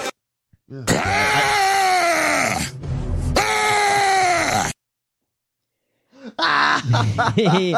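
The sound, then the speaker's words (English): A man lets out two long, loud, strained yells of frustration, each lasting a couple of seconds, followed after a brief silence by a shorter burst of agitated vocalizing. “He's just screaming.”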